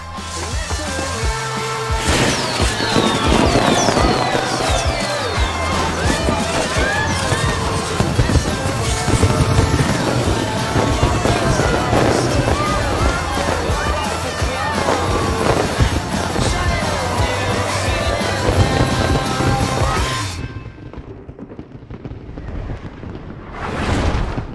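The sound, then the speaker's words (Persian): Fireworks go off in a dense, continuous barrage of booms, crackles and rising whistles for about twenty seconds, then cut off sharply, leaving a faint fading tail and one last soft burst. “بیا بشین و با هم آتش بازی رو تماشا کن.”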